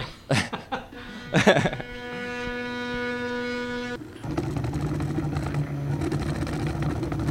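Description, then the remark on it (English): A do-it-yourself 3D printer prints a part, its motors giving a steady tonal whine that shifts into a continuous mechanical whirring, with brief laughter at the very start. “This is sort of a do-it-yourself 3D printer, but I assume that there are much bigger 3D printers if you're in the commercial end of this sort of an operation.”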